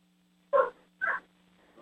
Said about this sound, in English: Well, the dog is still barking away. Hold on, just a second, please.